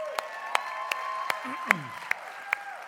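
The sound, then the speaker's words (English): Thin, scattered audience applause as the audience at a second service gives each other a hand: about seven separate sharp claps at uneven intervals rather than a full ovation, with a faint steady tone and low murmur underneath. “So give each other a hand.”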